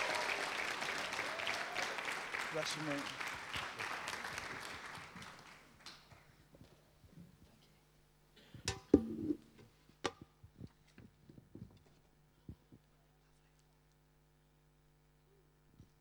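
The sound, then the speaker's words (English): A crowd claps steadily for about six seconds as a speaker comes to the platform, the applause fading out, followed by a quiet stretch with a low hum, a few scattered thumps and a brief spoken phrase. “And so, like, let's give him a hand as he comes to the platform.”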